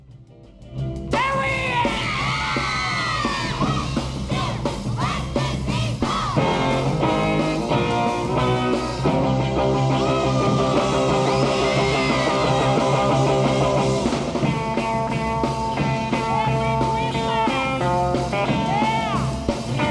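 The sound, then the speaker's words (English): A loud, lively band recording of "Jingle Bells" plays continuously while girls yell, whoop, chant and cheer the band on excitedly over the music, calling out the players' names. “It has like there's girls like cheering the band on and chanting and saying their names and whatnot.”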